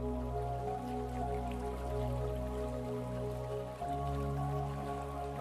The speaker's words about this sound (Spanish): Estás junto a un arroyo de agua dulce y cristalina, observando los pequeños peces que nadan y revolotean en su interior.